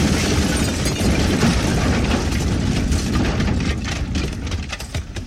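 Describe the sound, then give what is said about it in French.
A car bomb explosion, set off with a trigger as the target's car drives past a Volkswagen, blowing the car apart: a loud, continuous low roar with a crackling, rumbling texture that fills the whole stretch and eases slightly toward the end, with no voices. “Rina actionne le déclencheur et la bombe fait voler en éclats la voiture de Salamé”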